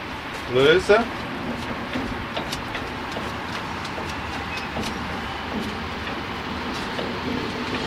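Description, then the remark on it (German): A couple of sharp metallic clanks and a brief squeal near the start, then steady rail-yard rumble with scattered small clicks as a railway wagon coupling is loosened but left hooked in, after the brake hoses have been separated. “Jetzt tue ich hier die Kupplung.”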